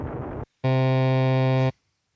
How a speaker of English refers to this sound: What's that? That's the fail buzzer.